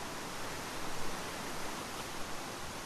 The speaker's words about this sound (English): The river noise is like a static, no burbling music, just a thrash of white noise that stretches out like a tablecloth beside the road.